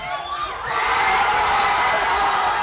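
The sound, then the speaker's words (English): Thousands of Chicago Cubs fans cheer and shout in the street around Wrigley Field after the Cubs beat the Cleveland Indians 8-7 in extra innings: a dense, steady roar of many voices with whoops rising out of it, swelling louder after the first half-second and staying loud throughout. “Thousands of Cubs fans poured from bars into the street around Wrigley Field.”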